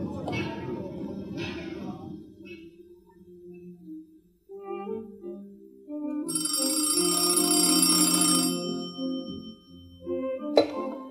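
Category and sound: signal or alarm, telephone bell ringing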